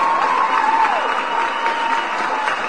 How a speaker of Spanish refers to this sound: Es una mesa, un aplauso.